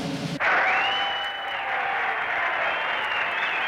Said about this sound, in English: You'd think the cheering might have been a little more restrained.